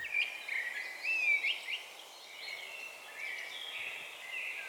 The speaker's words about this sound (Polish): Kos.